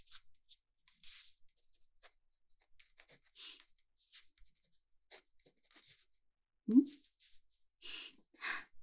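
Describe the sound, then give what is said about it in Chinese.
Quiet scratching of a pen on paper as someone writes by hand in short irregular strokes, with soft pauses between, plus a brief louder thump and a few breathy rustles near the end. “那我们做的第一个听力训练，就让你听听我写字的声音，顺便呢叮嘱一些你需要做的事情。”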